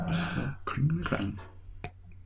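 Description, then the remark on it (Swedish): Glasses of Belgian beer clink once in a quick, sharp toast, right after a few seconds of people talking. “Och skål då. Skål då, ja.”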